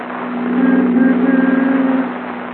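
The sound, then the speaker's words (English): A new convertible's engine hums steadily as Phil drives Jack home, the low drone swelling louder midway and then easing off slightly, with no voices present. “Phil is driving Jack home in his new convertible.”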